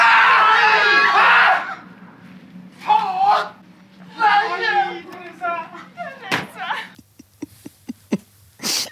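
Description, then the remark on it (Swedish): A man in an athlete's crew lets out a loud, panicked scream on learning she will miss the Olympics due to a suspension, then follows with several shorter anguished cries, and a run of sharp knocking thuds comes near the end. “Alltså det där är ju skriket, alltså det där panikskriket du får ur dig när någon skär halsen av ditt barn liksom.”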